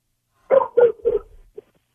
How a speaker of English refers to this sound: I go to you and I hear the dog before I hear you. That's a good sign, man. That's a good sign that we hear the dog barking in the background.